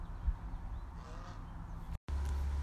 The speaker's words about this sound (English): As I sit here and listen, there are birds all around me. My geese are being sassy.